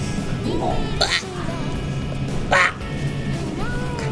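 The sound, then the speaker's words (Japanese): A child's voice does an impression of a crow's caw: two short, harsh, nasal calls about a second and a half apart, fairly loud over a steady background hum. “カラスらしきものとか。”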